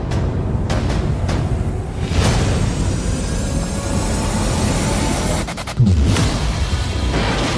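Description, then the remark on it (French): Loud, continuous rumbling roar with several heavy booms and sharp blasts from explosions in the trailer for the film Train to Busan (Dernier Train pour Busan), layered over a dense wall of noise with no speech. “Beaucoup d'explosions dans la bande-annonce.”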